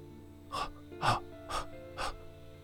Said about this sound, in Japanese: という自分の吐息だけが鼓膜を刺激する。